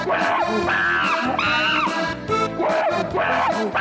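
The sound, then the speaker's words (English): A chimpanzee screams loudly and almost without pause, its shrill, harmonic cries rising and falling in pitch in a rapid string of calls, with no talking. “No, it's a real monkey, I swear to God. Listen, you can tell it's a real monkey. You can hear it.”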